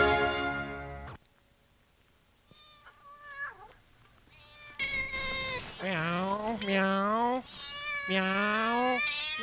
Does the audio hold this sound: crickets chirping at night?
no